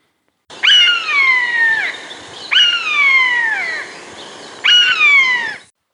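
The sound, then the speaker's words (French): A common buzzard gives three loud, drawn-out mewing calls, each a clear whistle sliding downward in pitch, spaced a couple of seconds apart with nothing else in the background. “Il s'agit de la buse variable.”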